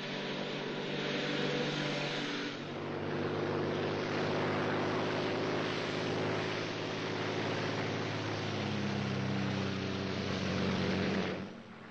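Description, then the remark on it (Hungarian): A steady, loud engine drone of a Royal Air Force aircraft in flight over Dover on the way to London fills the whole stretch, with a constant low hum and broad roaring wash that stays unbroken, no voices. “Egy titkos leszálló helyen vár a királyi légierő egyik repülőgépe.”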